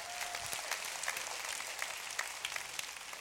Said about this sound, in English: Would you give this man a round of applause?